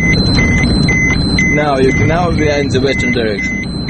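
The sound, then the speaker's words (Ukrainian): A dosimeter in a tour guide's hands beeps rapidly and steadily, alternating between two high-pitched tones, as a vehicle carrying foreign tourists enters a band of radiation contamination in the Chernobyl exclusion zone; the vehicle engine rumbles and voices talk faintly in the background. “Дозиметр у руках гіда зашкалює.”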